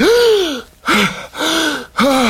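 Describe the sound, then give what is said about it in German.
A series of four loud, ragged gasping breaths from a man buried in snow as it is shoveled from his face, each a strained voiced intake followed by a brief pause, like someone desperately catching air. “Nach ein paar tiefen Atemzügen kann er wieder normal atmen.”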